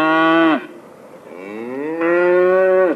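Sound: cow mooing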